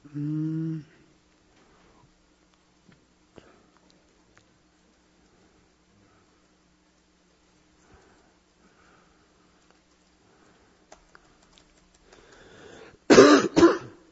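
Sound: throat clearing and coughing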